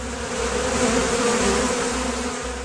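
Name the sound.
wasps buzzing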